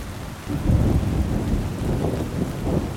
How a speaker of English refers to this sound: We need to get out of this rain.